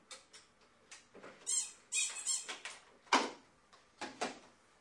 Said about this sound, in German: Und dieses hier, dieses Telefon, das klingelt sowieso nicht. Das quietscht, wenn man da drauf drückt.